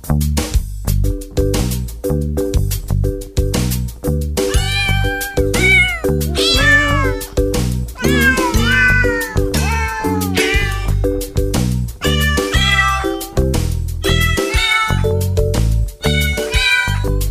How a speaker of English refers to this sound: Gotta love those jingle cats and jingle dogs.